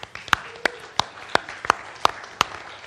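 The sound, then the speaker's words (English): Applause at a church gathering, given as thanks, in the form of seven sharp, evenly spaced hand claps at a steady rhythm, crisp and moderately loud over a faint background murmur, with no talking. “So let's just say thank you to them with some applause.”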